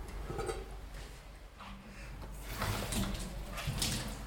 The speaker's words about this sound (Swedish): Häller vattnet från dig när du ska hälla ut i vasken. Så du inte riskerar stänk på dig.